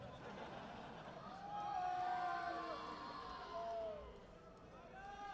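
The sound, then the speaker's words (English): An audience boos, a dense wash of crowd voices with drawn-out, wavering mid-pitched 'boo' calls that swell, fade and rise again over about five seconds. “Who the hell's booing?”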